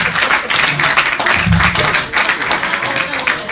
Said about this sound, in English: I am like 90% sure everyone clapping at that were millennials.